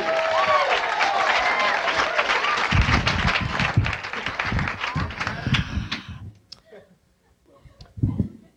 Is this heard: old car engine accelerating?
no